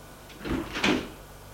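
A man opens the front door of a house, with a short creaking swing followed by a soft thud, on its own with no voices.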